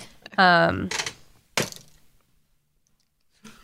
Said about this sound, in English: for those who are listening who don't play Dungeons and Dragons, the D12 is not the dice that you roll for any checks. You're supposed to roll a D20, and then you're supposed to add like modifiers and things like that.